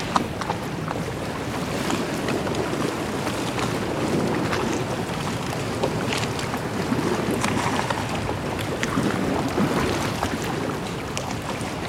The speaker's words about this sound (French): Puissance de la mer et du vent qui cogne les côtes de cette petite île au large de Cannes. Bien évidemment, ce site est protégé.